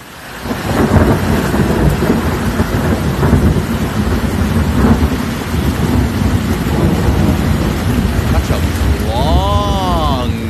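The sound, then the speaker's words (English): Steady heavy rain pours down just outside a back door with a deep, rolling rumble of thunder running underneath throughout, loud; near the end a warbling high tone rises briefly over the storm. “Now, the sound of yesterday's rain just outside my back door.”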